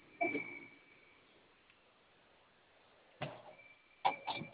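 The management office door is pushed shut, with a soft thud at the start and then a couple of sharper clunks and latch clicks near the end, set against a quiet, faintly humming background.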